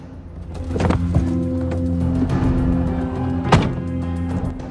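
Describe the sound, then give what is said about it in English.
An SUV's rear boot is shut, closing with a steady electric motor whine punctuated by a couple of solid latching thunks, fairly loud, with no voices. “He shuts the SUV's boot and heads for the driver's window.”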